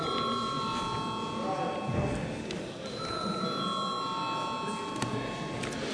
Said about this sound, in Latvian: Deputāti prasa balsojumu, lūdzu zvanu.